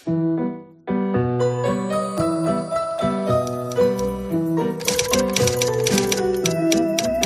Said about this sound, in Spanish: Suena el teclado de la máquina de escribir y aparece Fornas con un mensaje de línea directa.